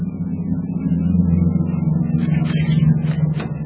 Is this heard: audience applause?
no